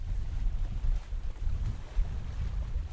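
Outdoor lakeside ambience at a boat launch, dominated by a steady low rumble of wind buffeting the microphone, with faint water sounds and no voices.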